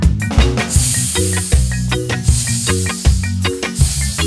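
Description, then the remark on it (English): A voice imitates a snake's long, breathy hiss for about a second over a bouncy musical backing with plucked bass notes and steady percussive hits. “Maybe scare a human child with my scary hiss.”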